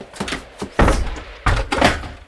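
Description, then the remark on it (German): A door is deliberately slammed shut with a loud thud, then a second heavy clunk follows as it's bolted, with a few softer rattles around the impacts and no talking. “Der Riegel war zu. Meine liebe Pigotti hat ihn absichtlich so energisch und laut zugeknallt”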